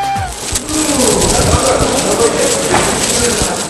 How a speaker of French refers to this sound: Les enfants s'amusent à faire voler les pigeons. Et à rigoler entre eux.